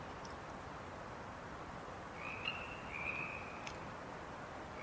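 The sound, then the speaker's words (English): A faint, sparse frog chorus winding down about 13 minutes before dawn, over steady outdoor hiss, with a couple of thin, high trills drifting in midway before fading, and no one speaking. “Right now, you are hearing the frog chorus winding down, and soon the waking bird song of the common yellow-throat bird.”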